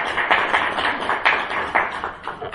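A lone person claps a steady string of about eight or nine sharp, bright claps, moderately loud, with no voices over them.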